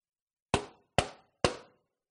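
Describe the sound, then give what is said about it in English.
Three firm knocks on a door, evenly spaced about half a second apart, each sharp with a short fading ring, and silence before and after. “Revelation 3:20, Jesus says, "Here I am. I stand at the door and knock.”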